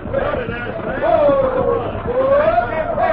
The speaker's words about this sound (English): Whoa. Look at that crowd out there.